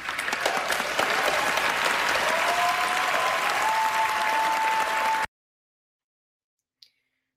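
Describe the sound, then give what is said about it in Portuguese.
Dense, steady Hollywood audience applause following Jonathan Glazer's speech, lasting about five seconds with a faint whistle rising through it, then it cuts off abruptly into silence broken by a single brief click. “As palmas também mostram que Hollywood continua, em muitos sentidos, incólume ao que acontece no mundo, né?”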